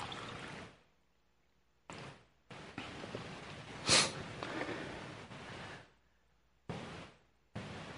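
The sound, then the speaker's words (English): Water is poured from a pitcher into a glass jar to fill it, in several splashy, gurgling bursts, the longest running a few seconds, with one sharper splash in the middle and short quiet gaps between pours. “pick up a pitcher of water, or pick up the, you know, and a glass, you know, a jar of water, and fill it.”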